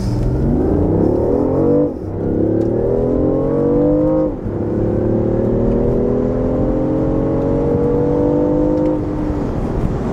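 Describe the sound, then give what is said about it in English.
A sports car engine accelerates hard in a speed test, its loud roar climbing steadily in pitch through three gears, with brief dips at each quick upshift before the whine builds again. No one speaks. “All right, so the one thing that we definitely need to do is see how fast this goes.”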